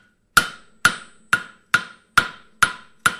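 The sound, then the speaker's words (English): Hammer blows ring out on an anvil as a glowing hot, softened piece of metal is shaped into a shoulder blade, seven sharp metallic strikes at a steady pace, each with a bright ringing tone that decays quickly before the next. Loud, no talking. “The metal is soft, so now it's hammer time.”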